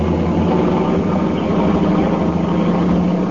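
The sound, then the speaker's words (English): A car engine roars steadily at speed on a highway with no other cars, a loud, continuous low rumble with road noise and no pauses, heard on its own without any voices. “There's no other cars on the highway right now. Step on it.”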